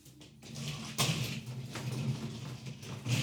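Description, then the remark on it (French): A door being opened at a home office by someone leaving with a picnic basket, heard as a soft scrape and a sharper knock about a third of the way in, over a steady low hum and faint rustling, with no voices. “Un panier de pique-nique qui laisse la porte ouverte.”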